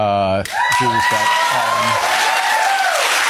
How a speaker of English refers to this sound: Not quite sure about the applause.